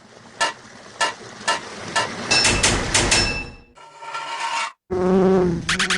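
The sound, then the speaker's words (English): A few sharp evenly spaced taps give way to loud buzzing of a bee, which drones on in bursts before shifting to a steadier humming tone. “Take that, you crazy bee!”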